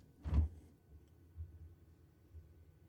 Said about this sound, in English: Now the door is not completely sealed. Not that big of a difference, but enough. Okay, now I'm going to push the door open.